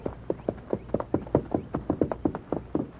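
horse hooves clip-clopping

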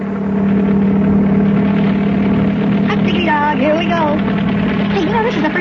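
helicopter engine running

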